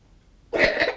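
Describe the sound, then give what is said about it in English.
After a moment of near silence, someone lets out a loud, rough cough in two quick bursts, as if trying to bring up phlegm. No one speaks. “Cough, see if you can spit it up.”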